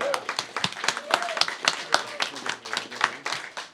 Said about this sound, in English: So a 24-hour turn. Thank you for doing that. Round of applause for all of our songwriters.